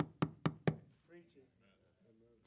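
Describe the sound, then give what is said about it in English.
Three loud, sharp knocks on the front door of someone's home in quick even succession, followed by a person talking at a normal volume. “No, not that crazy, but you know, enough for them to hear. And then they open the door, and then your heart kind of drops a little bit.”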